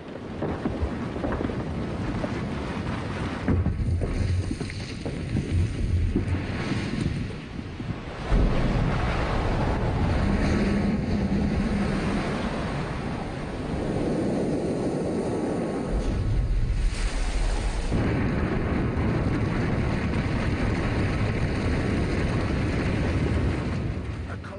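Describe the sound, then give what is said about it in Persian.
Ice breaks away from the Greenland glacier and crashes down, a deep rupture calving a floating iceberg several hundred metres wide, in a deep, continuous rumbling roar, loud and thunderous, with heavier surges partway through and a wash like churning water. “و ریزش این یخها علامتی شوم از حادثه‌ای هستند که در شرف روی دادن است، یعنی یک گسیختگی عمیق در یخرود.”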